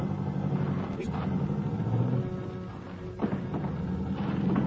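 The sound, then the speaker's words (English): A taxi cab drives steadily out to a house, its engine and road noise forming a constant low rumble, with a couple of soft thumps as it rolls over bumps. “Finally, I left word with the bartender and took a cab out to his house.”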